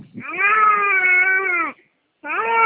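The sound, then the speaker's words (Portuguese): A one-year-old baby girl lets out a long, loud, wavering vocal sound, pauses briefly, then starts another, babbling as if trying to talk rather than crying. No one speaks. “É seu bebê que tá chorando? Chorando não, né? Tava tentando conversar.”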